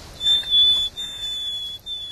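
Nightingale opening call, the position call with which it always begins its song: a pure, steady high whistled note held for long stretches, broken by two short gaps, sounding alone with no voices.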